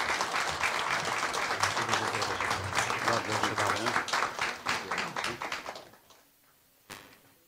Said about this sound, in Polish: Teraz panie przewodniczący, może zanim podziękujemy sołtysom, to ja chciałem na pana przewodniczącego ręce podziękować wszystkim radnym naszej gminy i państwa sołtysów, państwa zebranych, poprosić o brawa dla państwa radnych.